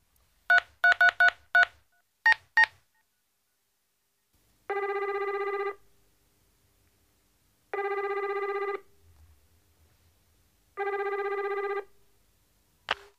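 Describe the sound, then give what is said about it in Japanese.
A quick burst of telephone keypad tones as a phone is dialed to call for pizza, then a ringback tone repeating three times in long, evenly spaced buzzes, ending with a short click. “電話を貸してください。こんなんじゃいつまで経ってもピザ食えやしねっつうの。”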